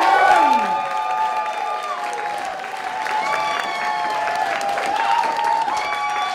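An audience applauds steadily throughout, a dense, sustained wash of clapping mixed with brief cheers, while bright tonal music with sweeping notes plays loudly over it.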